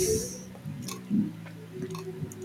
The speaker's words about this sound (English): There's a whole bunch of people chopping.